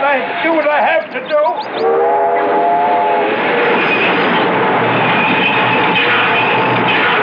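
A freight train rumbles steadily along the rails, loud, a continuous grinding roar with brief horn-like tones near the beginning.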